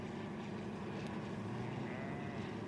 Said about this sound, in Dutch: Ik hield van het geluid van de geallieerde vliegtuigen die over het eiland kwamen. Het begon als het geluid van een zwerm bijen die steeds dichter en dichterbij kwam. Totdat ze zo dichtbij waren dat de ramen van het huis trilden